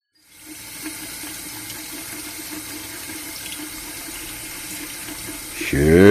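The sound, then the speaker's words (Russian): Water sloshes and splashes in a bath as a person bathes, a steady wash of sound lasting several seconds before a voice begins speaking over it at the very end. “Звук раздался так неожиданно и так оглушительно громко, что я чуть не ушла с головой под воду.”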